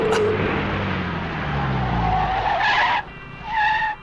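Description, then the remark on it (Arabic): A car on a street brakes hard at a traffic-light crossing with loud squealing tires, the screech sliding and wavering for a few seconds before a final short squeal as it comes to a stop, with engine rumble underneath. “انظروا، لقد توقفت السيارة، إذن مسموح لنا الآن العبور.”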